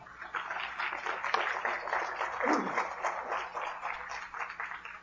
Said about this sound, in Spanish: Amén, amén. Aplausos a nuestro Dios.